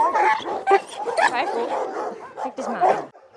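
Several dogs bark and yip over one another in a dense, overlapping chorus at an animal shelter in Lübeck, loud, with higher whining yelps mixed in.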